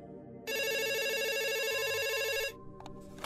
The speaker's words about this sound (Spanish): Cuando era niño me encantaba levantar el teléfono de la casa cada vez que sonaba.